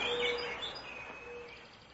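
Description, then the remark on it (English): Several birds sing and chirp together in a bright outdoor spring chorus in North America, with high whistled tones and quick twitters layered over one another at moderate volume, no voices present. “spring in North America has brought the usual seasonal sounds of birds.”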